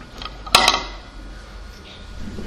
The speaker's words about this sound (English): Now, let's knock on this door again.